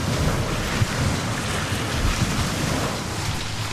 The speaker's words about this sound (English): Another wave's rolling in. It's coming over the top of the landing.